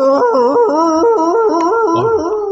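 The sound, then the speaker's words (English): A dog howls in a long, loud, unbroken stretch, its drawn-out tone rising and dipping in pitch, with no talking. “I cut him off right in mid-howl.”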